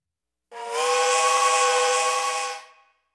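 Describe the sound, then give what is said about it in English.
A toy steam train whistle blows one long, steady, breathy note for about two seconds, loud and alone, with a hissing edge before it trails off quickly. “A train.”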